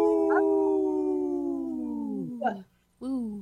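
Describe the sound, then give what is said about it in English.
People imitate a wolf howl together in three-part harmony, a long sustained howl lasting about two seconds that slides down in pitch, then a short break and a second howl starting up, loud. “Yeah, it was the harmony, the three-part harmony was awesome.”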